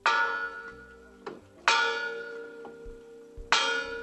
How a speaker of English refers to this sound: This bell, heard at the Lincoln Memorial, once rang at the Birmingham Church, where a bombing in 1963 left four girls dead.